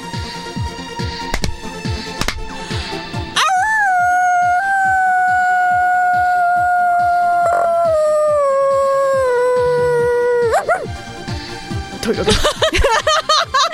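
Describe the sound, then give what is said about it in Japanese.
A person imitates a dog howling as an offering to a dog deity, in one long, sustained, slowly falling wail lasting several seconds, loud, framed by rhythmic tapping and short vocal noises before and after. “犬神長かった 犬神なので遠吠えで奉納させていただきました。”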